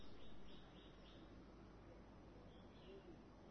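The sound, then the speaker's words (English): Faint birds chirping, a handful of short, high calls repeating in loose bursts over a steady wash of background noise. “The birds are chirping.”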